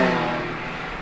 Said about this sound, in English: Car right here. It's turning now, so you'll see it right now, as you can see.